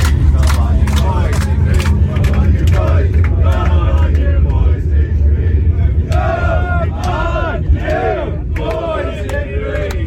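A packed crowd of Irish football fans aboard a plane that has just touched down in Prague chants and roars together in loud, rhythmic bursts over a steady low engine hum, with whoops and sharp shouts rising between the chanted phrases.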